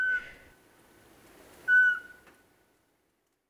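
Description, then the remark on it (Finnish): A Eurasian pygmy owl, Europe's smallest owl and about the size of a bullfinch, gives clear, monotone whistled notes, evenly pitched and spaced about a second and a half apart, with a third just beginning, at a nest box in Kauhava, Finland, against a quiet outdoor background. “Se on Euroopan pienin pöllö, sellainen punatulkun kokoinen.”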